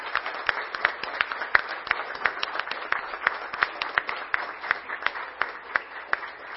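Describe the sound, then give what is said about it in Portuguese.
Steady applause from an audience at a Câmara Municipal de Garça ceremony honoring the Lions Clube, many hands clapping in a dense patter with sharper individual claps standing out, continuing evenly throughout with no voices on top. “Então, para todos nós, todos vocês, uma grande salva de palmas.”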